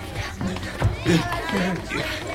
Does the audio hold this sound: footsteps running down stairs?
yes